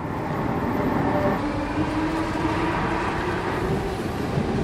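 Steady, continuous rumble of a train in motion approaching Copenhagen Central Station, Denmark, a dense low roar with faint rattling and a thin tonal whine running through it, heard from inside the carriage with no talking.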